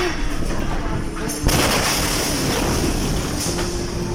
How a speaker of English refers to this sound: It was shortly after 6 p.m. on the 4th of August, 2020, when hundreds, perhaps thousands of tons of a chemical called ammonium nitrate stored in Beirut's port exploded.